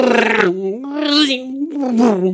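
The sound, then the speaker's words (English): A voice imitates a car engine revving: three loud, buzzy vocal bursts whose pitch swells and rises, each like a drawn-out 'vroom', with brief pauses between them. “Relaxed day listening to cars going...”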